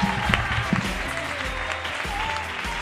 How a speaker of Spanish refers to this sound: Bueno, vamos a darle un aplauso a toda la gente que está aquí hasta el final. ¡Viva Toledo!